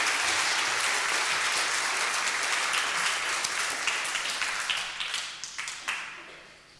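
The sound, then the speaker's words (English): A crowd applauds the Improv Stars after their performance of the Bible story of Samuel, with dense, steady clapping that holds strong for several seconds, then thins out into scattered individual claps before fading away. “Round of applause for the Improv Stars.”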